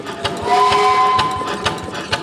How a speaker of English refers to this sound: I'm not trapped in a train engine right now, but it sure feels like I could be. I'm surrounded by large gears, metal pistons, and billowing clouds of hot, wet steam. Tucked away in a warehouse behind a metal scrapyard is Kinetic Steamworks,